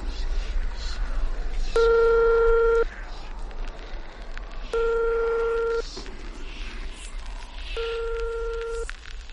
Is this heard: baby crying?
no